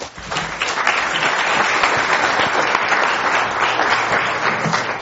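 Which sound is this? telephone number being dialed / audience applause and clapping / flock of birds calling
audience applause and clapping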